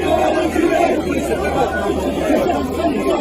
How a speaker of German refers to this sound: Bei einem spontanen Bad in der Menge wurde Macron ausgebuht.